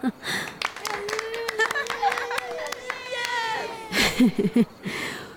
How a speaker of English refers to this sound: Nice! Can we clap for ourselves?